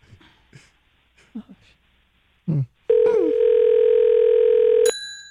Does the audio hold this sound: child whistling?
no